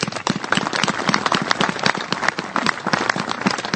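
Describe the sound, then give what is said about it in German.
A crowd applauds the landowners steadily, dense rapid clapping filling the whole stretch at a fairly loud, even level with no voices on top. “Deshalb noch einmal ein großes Dankeschön und einen großen Applaus an die Grundeigentümer.”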